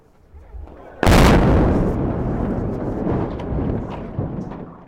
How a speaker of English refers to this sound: As onlookers watched from the shore, the Black Hawk Bridge crashed down into the water below. The bridge was built in 1931 and connected Wisconsin to Iowa.